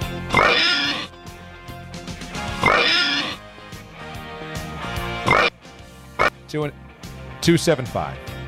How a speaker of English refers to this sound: give me the oinks.